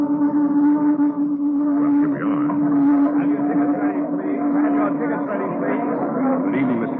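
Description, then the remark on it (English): A taxi cab drives in the evening up Broadway and across 42nd Street, past crowds and signs toward the Little Theater off Times Square, with a steady, loud engine drone, a constant low hum with a busy wash of street noise and indistinct murmuring layered over it, unbroken throughout. “All right, driver, to the Little Theater. Up Broadway across 42nd Street, past gay crowds and twinkling signs into the heart of theater land.”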